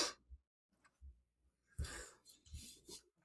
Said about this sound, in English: My aunt cupped my back to, like, help all this mucus move. Oh, the shit that I'm coughing up is disgusting.